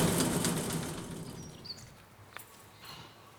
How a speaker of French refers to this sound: Moi, ce que j'aime bien dans le jardin, c'est entendre le bruit des oiseaux.